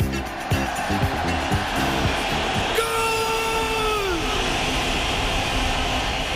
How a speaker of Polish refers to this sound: A ten dżingiel oznacza, że czas rozpocząć nasz mini-magazyn Wielkopolskie Gole.